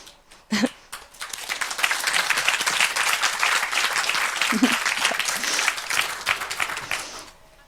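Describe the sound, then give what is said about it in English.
Sustained audience applause for a speaker at the end of a talk, a dense wash of many hands clapping that swells after a second and holds steady for several seconds before tapering off, with a brief voice or two at the start. “You already had applause.”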